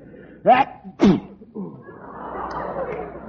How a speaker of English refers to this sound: Bless you. Oh, thank you.